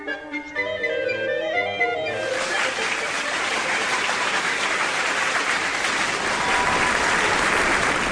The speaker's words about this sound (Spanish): Gran aplauso a los contadores de cuentos.